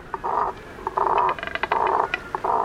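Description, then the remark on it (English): A double-crested cormorant gives a run of hoarse, guttural croaks, several rough grunting bursts in an uneven rhythm with short gaps, fairly loud and low-pitched, with no talking. “But why do they have such a limited and guttural vocal range when many birds create glorious songs?”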